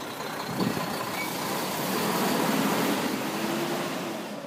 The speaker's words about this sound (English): Now I'm in a farm field in Saline, next to an enormous oil well pump jack.